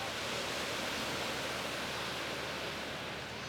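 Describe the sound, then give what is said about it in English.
A steady, dense roar of ocean waves washing onto Point Pleasant Beach as rehabilitated sea turtles are released into the ocean, continuous and fairly loud without distinct individual breakers, and no voices. “At Point Pleasant Beach, a crowd of over 100 people watch as the rehabilitated sea turtles are released back into the ocean.”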